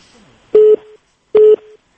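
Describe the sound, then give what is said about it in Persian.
Two short, loud beeps of a telephone busy tone after a caller's line from Pakistan to a radio call-in program is cut off, evenly spaced, each a steady mid-pitched hum that cuts off sharply, with faint line hiss between them and no voices. “قطش پاکستان قطش دا تلفن.”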